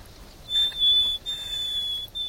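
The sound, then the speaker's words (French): A nightingale's position call opening its song: a few clear, high, pure whistled notes held steadily one after another with short gaps, distinct against a quiet background, with no talking. “Alors, il commence toujours son chant par son cri de position, et après il décline son identité.”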